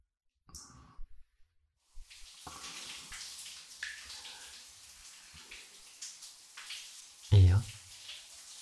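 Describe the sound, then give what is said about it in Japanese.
Shower water runs in a steady hiss of spray after a few soft clicks, continuing to the end with a brief louder splash or thump near the finish. “先にシャワー浴びようね。”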